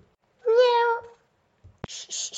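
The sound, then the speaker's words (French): A single high, drawn-out meow sung by a young voice imitating a cat, followed after a short pause by a sharp click and a brief burst of hissy, breathy noise. “Miaou!”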